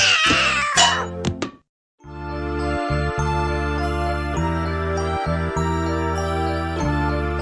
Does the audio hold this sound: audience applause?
no